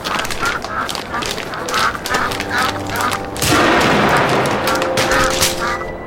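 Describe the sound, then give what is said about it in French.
Rapid shotgun blasts, fired at ducks, crack repeatedly over a chorus of quacking ducks, the whole scene dense and loud for several seconds, with honking calls mixed into the steady clatter. “Si vous voulez des news, va falloir utiliser le fusil.”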